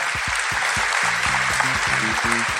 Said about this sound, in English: So we should thank our brilliant audience. Give yourself a big round of applause, brilliant audience.